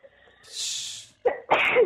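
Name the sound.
sneeze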